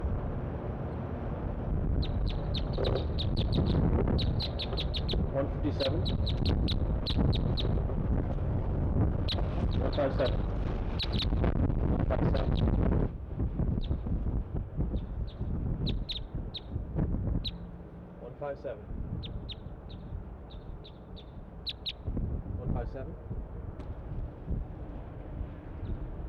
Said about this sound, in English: All the birds are chittering, all three.